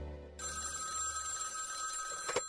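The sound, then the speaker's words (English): A telephone bell rings loudly, one sustained metallic trill that starts abruptly and cuts off sharply about two seconds later, with no voices present. “In fact, I didn't even have the nerve to tell them over the phone.”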